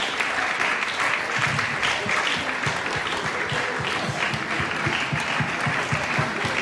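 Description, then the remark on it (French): An audience at a church gathering applauds models wearing the "breastplate of righteousness" costume, clapping steadily for several seconds, a dense wash of clapping that stays loud and even, with a regular rhythmic pulse running underneath as if some hands clap in time. “Je vous invite à applaudir nos cuirasses de la justice, là, les mannequins.”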